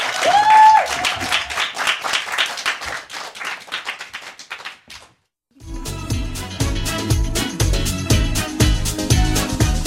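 A crowd applauds for about five seconds to welcome a singer, a former MBC choir member, before a song; the clapping thins out before a brief silence, then a full band's music kicks in with bass and drums.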